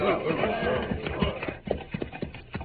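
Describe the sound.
Horses' hooves clip-clop in an uneven rhythm through the second half, moderately loud, with a dense murmur of voices and movement filling the start.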